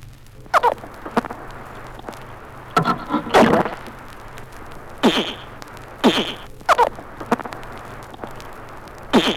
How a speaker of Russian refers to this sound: Пресноводные рыбы в аквариуме. Крик боли вьюна.